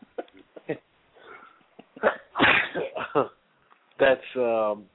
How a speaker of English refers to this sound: Excuse me, I'm kind of sneezing here. I don't know what's going on, but the Jets cold. The Jets cold probably.